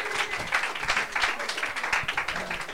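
A crowd applauds steadily, many hands clapping in a dense, sustained wash that stays loud and close for the whole stretch, with no clear voices rising above it.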